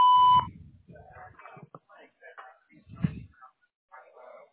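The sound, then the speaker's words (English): A single short, loud answering machine beep sounds at the start, a steady electronic tone, followed by someone talking in a muffled, broken way. “what you're calling about after the beep.”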